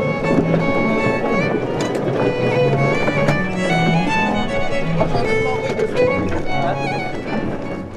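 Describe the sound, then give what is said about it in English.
A referee's boat at a boat race moves across open water, with a steady engine drone, rushing wind buffeting the microphone and splashing water all around. The sound stays loud and constant throughout. “I'm in the referee's boat now because I've been offloaded as ballast by Kiol na Mara”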